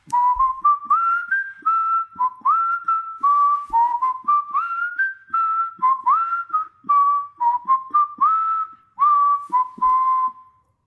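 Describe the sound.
A columnist whistles a bright melody for about ten seconds as the introduction to his column, with short phrases broken by brief pauses and notes sliding up and down.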